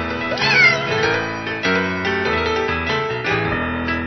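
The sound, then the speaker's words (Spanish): A cat meows loudly, with drawn-out, wailing cries over a steady, tonal musical backing that runs for the whole few seconds. “Puso la lavadora en marcha y el pobre gatito dio mil vueltas y vueltas entre el agua caliente y la espuma del detergente.”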